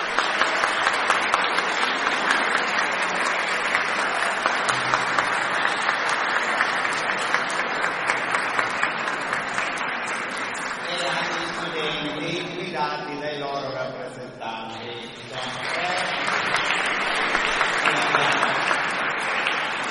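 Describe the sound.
Sustained audience applause at the Setti Carraro school evening, applauding the teachers who organized it, a dense steady clatter of clapping for the full twenty seconds, with a voice speaking briefly over it midway before the clapping carries on.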